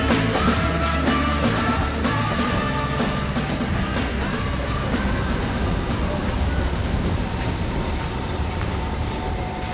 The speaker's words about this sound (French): Le bruit du monde est dans les rues de Stockholm ce soir en Suède et vous noterez derrière nous qu'on entend beaucoup de trams mais pas beaucoup de voitures.